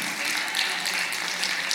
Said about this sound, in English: Now, I need y'all to clap like that was for you.